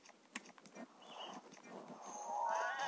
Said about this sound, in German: Junge Ziege, renn mich doch nicht um.